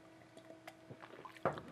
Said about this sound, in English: hold on a second. Let me get a swig of water here.